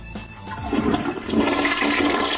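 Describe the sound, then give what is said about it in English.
A toilet flush sound effect: a toilet flushes loudly, a rushing gurgle of water that swells and churns steadily for a couple of seconds with no voices. “Does he get a cheer, or does he get a flush?”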